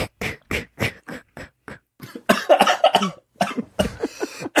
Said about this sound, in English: You're right. Yeah, the cough laugh.